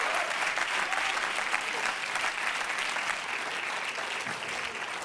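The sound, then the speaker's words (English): A church audience claps their hands to praise God in a dense, steady wash of applause that holds at an even, fairly loud level for about five seconds without letting up. “If you love God, clap your hands into him and bless his name.”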